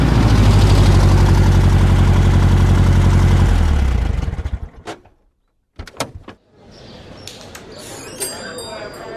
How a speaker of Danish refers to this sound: Endelig nåede de ud på asfaltvejen, og da de havde kørt 5 minutter, saknede bilen farten og standsede.